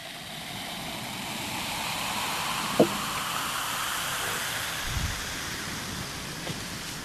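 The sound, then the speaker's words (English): Steady, dense fizzing of bubbles in a bottle of organic beer, a soft crackling hiss that holds evenly throughout, broken only by a brief click and a dull low thump; no one speaks. “chuchotant et tapotant sur une bouteille de bière avec ses doigts, avant de faire écouter le pétillement des bulles aux téléspectateurs.”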